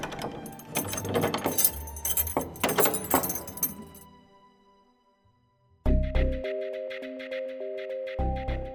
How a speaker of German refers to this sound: steigt die Treppe aus der Gruft nach oben ins Tageslicht, zieht die letzte Tür zu und verschließt sie mit dem großen silbernen Schlüssel, der schon immer im Besitz der Familie ist und dort bleiben wird.